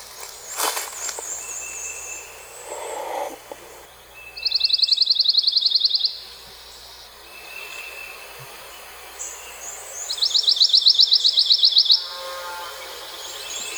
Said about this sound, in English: The pine warbler is a common and widespread species in the eastern half of the U.S. They emit a monotone trill during most months of the year across the southeast U.S. and beyond. Here's the song of the pine warbler now.